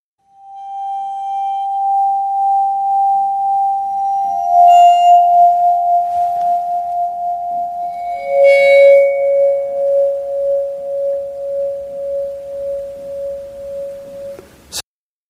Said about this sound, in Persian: حالا ما میشنویم صدای ویبرافونی که با استفاده از آرشه صداش در میاد.